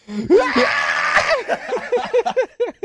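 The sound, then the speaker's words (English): A loud, strained vocal scream holds for about a second, then breaks into a quick run of short, rising-and-falling yelps that fade in and out. “When I'm all gassed and shit, I'm like, here comes a scream.”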